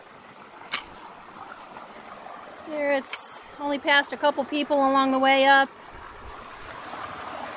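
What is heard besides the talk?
babbling brook flowing water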